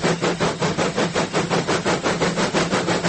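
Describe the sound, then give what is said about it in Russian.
Steady mechanical rumbling with a regular pulsing rhythm of model trains clattering along a model railway track, continuous and fairly loud with no voices. “Вблизи модельной дороги грохот поездов такой же, как и на настоящей железнодорожной станции.”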